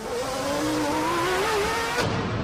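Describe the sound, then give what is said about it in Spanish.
Ayrton Senna's race car, leading the Monaco Grand Prix, whines steadily at high revs, then a sudden sharp impact cuts in as the car crashes into the wall barriers, the engine tone breaking off into rough noise. “Ayrton Senna ha chocado contra el muro.”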